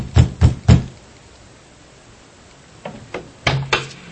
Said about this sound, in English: I knocked again, a little harder this time.